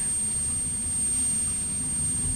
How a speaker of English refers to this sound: What can you hear? Heard it. You think it's nearby, I thought it sounded like an aircraft, an aeroplane in the sky.